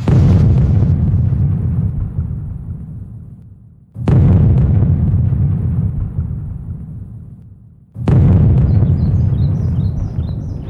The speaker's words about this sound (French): Frappons donc les trois coups de canon. Non, là, je rigole. Ah bah si, tiens, finalement...